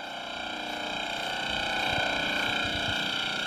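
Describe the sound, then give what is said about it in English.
An MF radar transmitter at the Arrival Heights Laboratory near Scott Base, Antarctica, which measures atmospheric winds at 60 to 120 km altitude, fires rapid pulses at about thirty per second, merging into a steady, buzzing electrical drone with layered tonal hum at a constant level, with no voices. “That's the transmitter firing at 30 pulses a second.”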